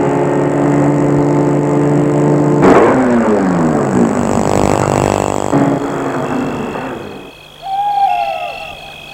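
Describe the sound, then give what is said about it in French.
A car engine hums steadily, its pitch sliding as it slows and pulls to a stop under trees in a dark spot in a wood, then the engine note cuts away and an owl hoots briefly in the quiet. “Il va arrêter sa voiture sous les arbres, dans un coin bien sombre.”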